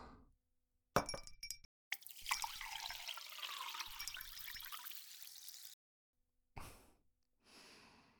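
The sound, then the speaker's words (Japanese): A clink of glass is followed by a long, steady stream of whisky poured into a glass, then a few softer clinks of ice or glassware settling near the end, as a highball and a whisky on the rocks are served. “はい、ハイボール。私はロックで飲もうっと。”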